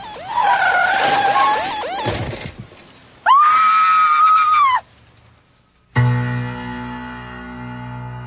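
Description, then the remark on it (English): Car tires squeal and skid in sharp bursts as a kid on a new bike rides straight out into heavy traffic: first a tangle of wavering screeches, then one long loud squeal, followed by a low engine rumble and horn-like drone of traffic. “I didn't ask the kid to ride straight out into heavy traffic.”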